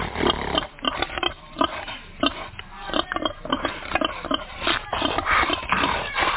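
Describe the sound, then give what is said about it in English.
A pig snorts and grunts in a rapid, uneven series of rough, breathy bursts that carry through the whole stretch, with shuffling underneath and no talking. “He's challenging my snort. It's working, guys. It sounds like a motorbike.”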